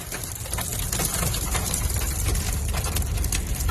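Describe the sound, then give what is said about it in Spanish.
Volcanic ash and large, heavy, still-burning embers patter steadily on a moving car driving several kilometres from the Cumbre Vieja volcano on La Palma, Canary Islands: a dense crackle of tiny hard ticks over a continuous low engine rumble, with no one speaking. “Es la ceniza, grandes y pesadas pavesas todavía ardientes que caen sobre el coche de nuestro compañero de la linterna, Álvaro García, cuando circula a varios kilómetros del volcán de Cumbre Vieja.”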